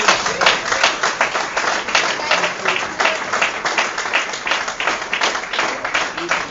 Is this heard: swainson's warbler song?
no